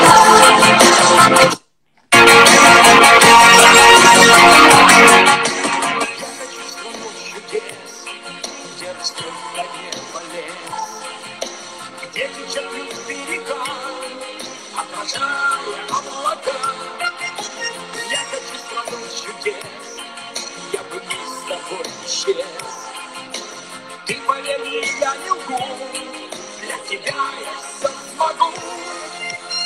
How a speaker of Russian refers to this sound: Вот песенка, вот она.